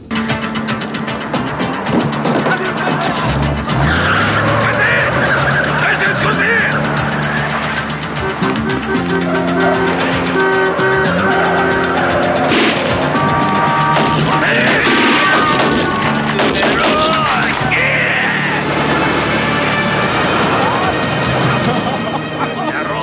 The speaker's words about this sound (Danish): altså Foley-manden, han har fundet den der Looney Tunes-kasse med lyde. Altså, alt lyder sådan helt tegnefilm-fjollet.